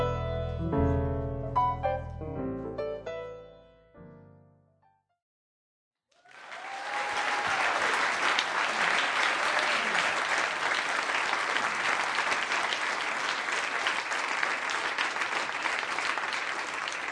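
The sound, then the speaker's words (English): A piano phrase rings out and fades to silence, then a loud, steady burst of audience applause, cued by an applause sign, erupts and sustains for about eleven seconds, dense clapping with a few faint whoops. “So did you figure out how to use that applause sign?”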